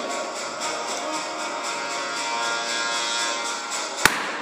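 A steady, hissing, droning background with faint tonal hum runs throughout. Just before the end, Phaeton's whip, used on his horses, snaps out a single sharp crack, loud and very brief.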